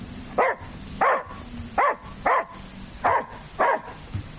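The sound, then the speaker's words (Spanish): A dog gives six short, high, whiny barks in a fairly steady rhythm, each yelp rising and falling like a whimper, with no voices over them. “Me gusta lo que has hecho para este perro.”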